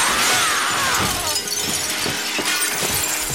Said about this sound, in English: Well, my freedom was so precious. I took my noxious alarm clock, I took my sledgehammer, and I smashed it.